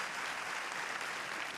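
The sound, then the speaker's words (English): Steady audience applause fills the whole moment, a dense, even wash of many hands clapping at once with no voices rising above it. “Veer signals the audience to hold the applause.”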